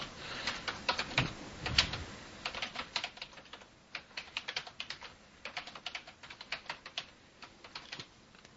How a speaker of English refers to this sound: Sound like I'm hitting the keys really hard.